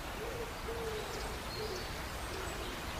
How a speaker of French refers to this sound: on peut voir que la tourterelle est un long nom, alors que le pigeon n'a que deux syllabes. Du coup, à l'inverse, le pigeon aura un chant plus long que la tourterelle. Donc, le pigeon a cinq tons, ta ta ta ta ta, et la tourterelle n'en a que trois.